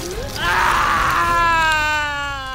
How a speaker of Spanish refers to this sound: Con la precisión y rapidez de un experimentado asesino, Héctor gritaba de dolor.